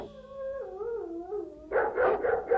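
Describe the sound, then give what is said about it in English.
Several dogs howl in a long, wavering chorus, then break into a quick run of about four loud barks. No one speaks. “Oh my God, that's not my dog. Look, there's several dogs. They're all around me.”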